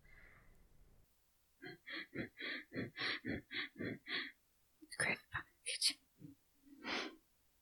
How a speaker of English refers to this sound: The next few minutes of travel back towards the navigation hub are silent and tense. Sparks is breathing shallow and fast, nervous.